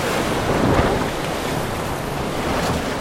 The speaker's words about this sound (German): Ich seh's. Die Wellen waren so hoch wie ein Haus. Das Motorboot kam kaum dagegen an.